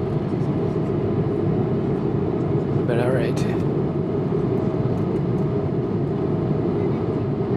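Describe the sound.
A steady, loud low roar of an airplane cabin in flight departing Jeju island, a constant engine and air rumble with a person speaking briefly over it.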